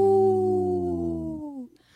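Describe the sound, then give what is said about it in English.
A person imitates a deep wolf howl: one long, low, sustained tone with rich harmonics that slowly glides downward and fades out after about a second and a half. “I tried a deep howl that time.”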